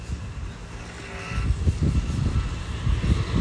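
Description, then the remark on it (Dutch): A car drives past along a main road, its low, rumbling road noise swelling steadily over a few seconds and staying broad and steady to the end, with no voices. “En nog een auto.”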